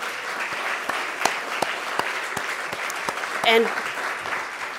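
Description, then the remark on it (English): An audience at a storytelling night claps steadily for the storytellers, a dense wash of applause with sharp individual claps popping out, and a brief cheer or voice rising above it partway through. “Can we have another round of applause for all these great storytellers tonight?”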